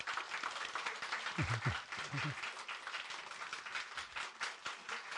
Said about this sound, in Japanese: 今日は、ドレスデンから牧師ご一家が来ておられて、我々がお世話になった牧師ご一家なんですが、歓迎の拍手をしたい。